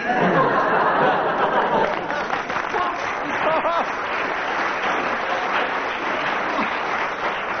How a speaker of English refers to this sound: Why this applause? Well, why?